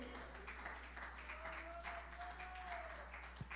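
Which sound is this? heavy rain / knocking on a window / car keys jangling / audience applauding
audience applauding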